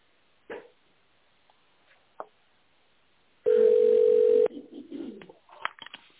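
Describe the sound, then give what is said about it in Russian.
A single steady beep tone on the automated phone line of the company Topro Ural, the signal after which callers dial an employee's extension, held for about a second at one clear pitch after a couple of short clicks; faint rustling noises follow it. “Если вы знаете внутренний номер сотрудника, наберите его после звукового сигнала.”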